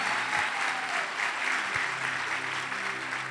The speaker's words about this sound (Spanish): Se parece aplauso de los mormones, no los hijos de Dios.